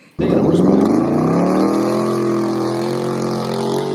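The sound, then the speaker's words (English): Dave's loud truck engine roars to life and revs, its deep rumble climbing in pitch and then holding a steady, throaty drone, with no voices. “Do you guys want to do the worst play of the game, sponsored by Dave's loud ass truck?”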